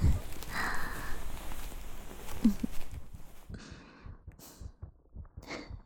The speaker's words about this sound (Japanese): な？ドキドキしてるの分かっただろ？あんたを相手にしてなんでか緊張してんだ。